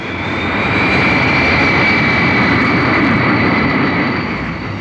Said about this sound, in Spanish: observa por una de las ventanillas del pequeño jet que vuela ya sobre la cadena de islas de las Bahamas.